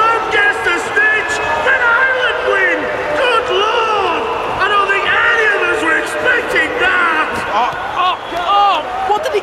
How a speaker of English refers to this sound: the rumbling from the island supporters grew louder and louder and erupted into screams of delight. Ireland win!